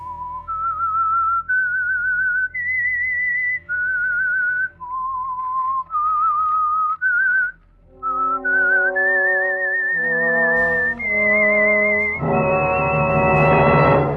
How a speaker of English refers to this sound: Then they heard a hauntingly discordant 13-note whistle, one where the sound became increasingly louder as a suspenseful music score began to play.